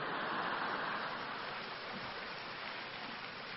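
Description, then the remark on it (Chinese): A crowd gives lukewarm applause, a steady, even hiss of many hands clapping at moderate volume with no standout claps or cheers, and no voices, fading only slightly over a few seconds. “鼓掌不热烈，没办法，鼓掌不热烈，我只能再讲一个短的，增加一个。”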